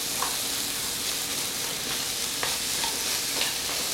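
Tomato paste and onion sizzle steadily as they are stir-fried in a hot pan, a continuous crackling hiss with occasional sharper pops and faint stirring scrapes, no voices.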